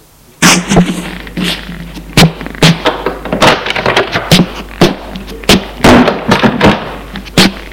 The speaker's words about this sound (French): il se retourne et ouvre une porte.